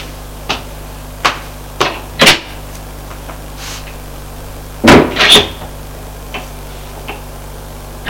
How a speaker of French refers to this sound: La porte est rouverte.